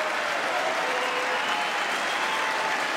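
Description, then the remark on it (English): A crowd applauds steadily during a speech about funding from the bipartisan infrastructure law, a dense, even wash of clapping mixed with cheering that holds at a consistent loudness for the whole stretch without any voice speaking over it. “And by the way, I noticed some of you have strongly voted against it, or they're cheering on that money coming in.”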